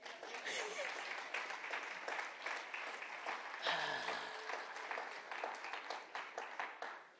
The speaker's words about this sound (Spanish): Horas de aplauso.